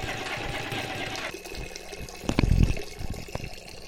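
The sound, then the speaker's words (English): A steady stream of urine splashes down onto a person, hissing for a moment before breaking into a few louder, sloshing spurts. It is moderately loud, with no one speaking. “You defeated your enemy by peeing on him?”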